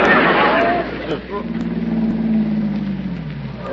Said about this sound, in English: Well, here comes that same car again. Now, that guy's been following me for an hour now.